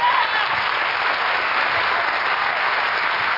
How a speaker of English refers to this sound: Is that all y'all going to clap about? You know, if you're going to clap, let's clap.